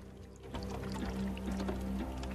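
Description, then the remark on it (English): Continuous gurgling and trickling of a river flowing freely beneath thin surface ice in a mountain valley flanked by tall pine trees, below a snowy mountain range, with small bubbling splashes over a steady low rumble and no voices. “The ice on its surface is thin now, and the river is flowing freely beneath it.”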